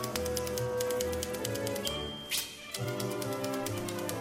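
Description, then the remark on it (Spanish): Rapid, steady clacking of typewriter keys struck in quick succession, fairly loud, with a brief sharper burst midway and a sustained tonal backdrop underneath. “comenzamos una máquina de escribir con el tema …”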